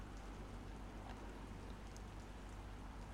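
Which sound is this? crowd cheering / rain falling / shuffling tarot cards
rain falling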